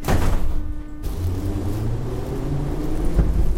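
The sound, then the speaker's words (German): A Moscow metro train, in Russia's capital, pulls away with a steady low rumble and mechanical hum, an initial burst of noise giving way to a continuous rolling drone, with no voices. “Die Moskauer Metro ist das wohl wichtigste Verkehrsmittel der russischen Hauptstadt.”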